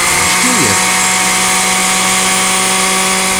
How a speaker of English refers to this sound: right after this word from one of the fine members of the Poison Creek Mall Merchants Association so they can run the blender.